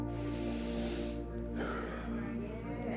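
A deep, audible breath drawn in through the nose, a sustained airy hiss lasting about a second, followed by a softer rushing exhale, with no talking.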